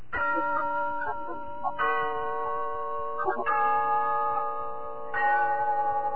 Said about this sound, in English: Yes, there's the clock in Glen Falls Town Hall, telling us it's time for Rinso's story of Big Sister, brought to you by Soapy Rich Rinso.